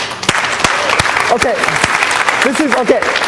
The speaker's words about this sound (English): So I think we need to imagine that you just got a big bonus from God. He includes you and we say, thank you, God. So let's applaud God right now.